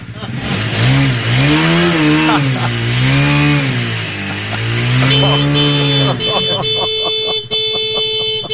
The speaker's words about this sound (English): He's got his motorcycle right outside his door.